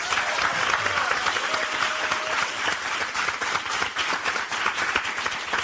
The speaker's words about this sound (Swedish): Gott folk, ge en varm applåd till Linnea Wikblad.